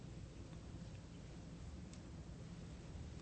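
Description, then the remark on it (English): A thunderstorm with a continuous low rumble of thunder beneath a steady wash of rain, fairly quiet throughout, with no voices. “Not so much that literal storm That little storm demonstrates the power of God and emphasizes our impotence as humans.”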